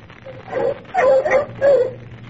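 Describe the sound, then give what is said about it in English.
Bloodhounds bark and yip in three quick, whining bursts, the middle ones loudest, as they stop on a man's trail in dark woods at night after following it for almost 8 miles, set against a low background rumble with no talking. “What's the matter with the dogs, Captain? Why are they stopping?”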